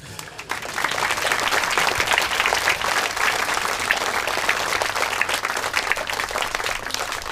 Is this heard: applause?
yes